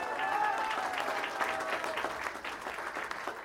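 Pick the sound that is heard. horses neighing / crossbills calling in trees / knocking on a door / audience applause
audience applause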